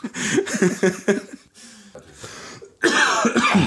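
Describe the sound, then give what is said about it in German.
A series of loud coughs and throat-clearing bursts, several rough hacks in quick succession, with a brief pause before a final harsh coughing fit. “Ich mache das immer nach 5 Minuten, huste ich, dann wissen wir, wie weit wir sind.”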